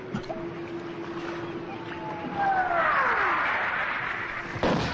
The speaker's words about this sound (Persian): صدای قایق موتوری نزدیک میشه.